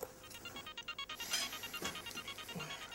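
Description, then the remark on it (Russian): A mobile phone rings with an incoming call from a husband, a quick, repeating electronic melody of bright tonal beeps, fairly quiet and heard on its own without any talking. “Опять муж звонит.”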